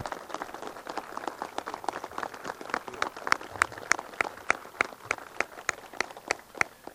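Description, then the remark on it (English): Audience applause for Kevin Knight of Knight Transportation, for growing in Indiana, fills the whole stretch: a steady wash of many hands clapping, with sharper individual claps popping out above the crowd, moderately loud and continuous, with no talking. “Kevin Knight, a rousing round of applause for growing in Indiana.”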